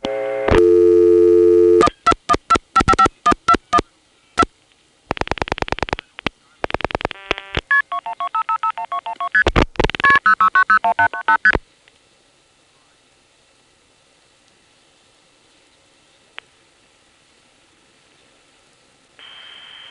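Touch-tone dialing of 1 plus 212-555-1212 on a coin payphone, going through the zero-plus dialing system: a steady tone, then a rapid run of loud beeping key presses and chirping signal tones, followed by a quiet, faintly hissing line with no talking.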